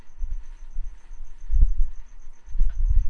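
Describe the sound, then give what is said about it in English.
A cricket chirps in a steady, rapid pulse of high, thin notes running through the whole stretch, over soft low rumbles and a couple of dull thumps. “It's a cricket.”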